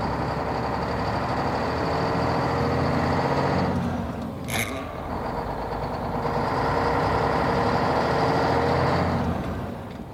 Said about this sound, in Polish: Tak wyposażony autobus powojennej i robotniczej Polski rusza w trasę. W imię Ojca i Syna. Jadą.